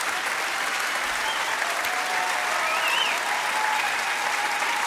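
Sustained, dense applause from a large concert audience, steady and loud throughout with no pauses, a few faint whistles rising above the clapping.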